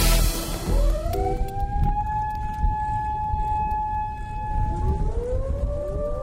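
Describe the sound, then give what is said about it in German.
A loud civil-defense siren wails in Japan during a minute of silence for the victims of the tsunami disaster three years earlier, its tone sweeping up to a long steady howl, dipping briefly and rising again, with a low outdoor rumble underneath and no voices. “In Japan heulten heute die Sirenen.”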